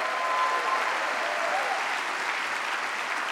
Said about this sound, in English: Come on, let's give Jesus a great hand clap. He's wonderful.